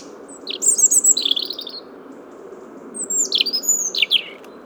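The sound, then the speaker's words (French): Two European robins singing their autumn song while chasing each other: two bursts of thin, high, warbling birdsong with quick descending trills, separated by a pause, ringing out over a steady low rushing background noise. “Donc voilà pour l'explication de ce comportement de deux rouges-gorges au chant d'automne.”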